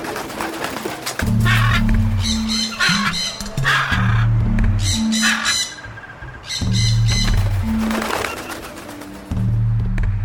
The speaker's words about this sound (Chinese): 昔日景星花鸟市场里种类繁多的虫鱼鸟兽虽早已不见踪影，但仍然能在街道一隅听到鹦鹉振翅鸣叫。